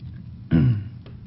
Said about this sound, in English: I'm going to move this over, and I'm even going to move the chair for dramatic effect, and because I'm thirsty, I'm going to take a drink of the water.